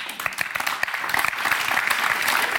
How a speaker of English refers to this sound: And thank you for that nice, polite applause.